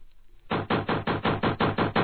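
Rapid, steady knocking on a door, about eight loud blows in even rhythm beginning after a brief quiet moment, with no voices.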